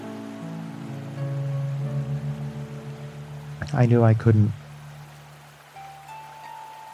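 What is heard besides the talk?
rushing flood water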